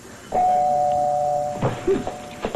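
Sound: doorbell ringing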